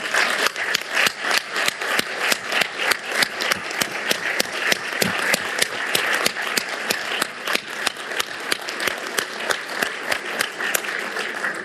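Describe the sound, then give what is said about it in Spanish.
Sustained applause from a large audience celebrating Brazil's return to CELAC, a dense steady wash of many hands clapping at once that holds evenly loud for over ten seconds with no voices on top. “Antes de rendirles cuentas de lo que hemos hecho, quiero pedirles a todos un enorme aplauso para celebrar el retorno de Brasil a la CELAC.”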